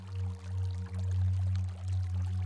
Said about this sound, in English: You make out the sound of a small waterfall in the background